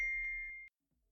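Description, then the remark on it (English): A single phone notification tone, a steady high-pitched ding held for just over half a second, fairly quiet, then cutting off into silence. “One tone.”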